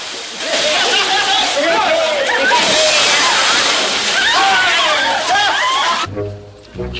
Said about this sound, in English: Come on, chaps. Fall in. Yes! Captain Keane jumps into the pool and is followed by the others.